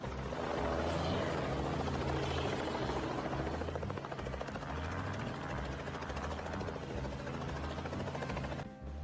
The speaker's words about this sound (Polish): Tutaj pilot helikoptera ląduje przed własnym domem, naprawdę się z tego ciesząc.